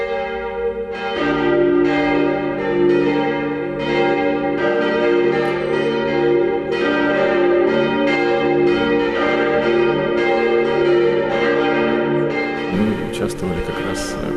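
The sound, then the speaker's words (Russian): Church bells ring continuously to greet the arrival of a bishop at a festive church service, in a dense, overlapping peal, their rich metallic tones sustained and loud throughout, with repeated strikes layering over one another and a brief rustling disturbance near the end. “Все богослужение, конечно, было очень торжественное и памятно, начиная с встречи владыка под звон колоколов, вход его, облачение.”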